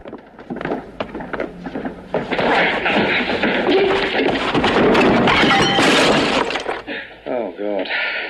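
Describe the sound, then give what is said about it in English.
Amid a scuffle in what appears to be a library, a man is pushed backwards and knocks a ceramic bust onto the floor. It smashes in a loud, sustained burst of shattering, followed by a brief voice as the noise settles. “He is pushed backwards and knocks a ceramic bust onto the floor, causing it to smash.”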